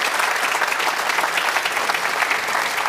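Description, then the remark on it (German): A steady burst of applause from many hands in Munich, welcoming colleague Patrick Berger, who is in Qatar. It is dense and sustained for the full few seconds, with no voices standing out above the clapping. “Jetzt habe ich Ihnen ja gesagt, wir wollen auch rüberschalten nach Katar zum Kollegen Patrick Berger, den wir mit einem großen Applaus, würde ich mal sagen, hier aus München begrüßen.”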